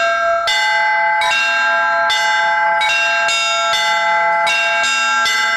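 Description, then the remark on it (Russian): Church bells rung in a perebor sequence, struck one after another in a steady succession of loud, resonant strikes, each tone ringing on and overlapping the next, with no talking. “Теперь попробуем перебор элементарно.”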